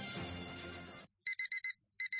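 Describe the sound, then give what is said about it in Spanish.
A car's front-door-open warning chime: after a second of dense, busy noise cuts off, high electronic beeps sound in a rapid run of four, pause briefly, then repeat twice more. “Puerta delantera abierta. La vida te avisa constantemente de cosas.”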